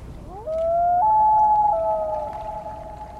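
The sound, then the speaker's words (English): A common loon gives a long, eerie wailing call, a sustained mournful tone that rises and then holds and wavers for about three seconds, with no voices present. “To hear a common loon in the wild during the summer, you'll need to find a northern freshwater lake where a pair is nesting.”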